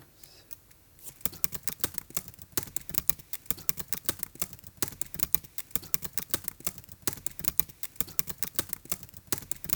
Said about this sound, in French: Ça, c'est le bruit du clavier de mon ordi. Du coup, je me suis amusé à le boucler. Je suis en train de retoucher un texte.